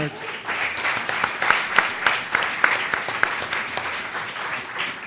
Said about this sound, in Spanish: un aplauso